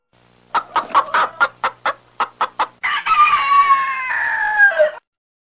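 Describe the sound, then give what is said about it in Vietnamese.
Chickens cluck noisily in the garden behind a house, about ten quick rhythmic clucks followed by a long, loud, drawn-out squawking cackle, with no voices. “Tiếng gà tao tác ầm ĩ ở khu vườn đằng sau nhà làm tôi tỉnh giấc.”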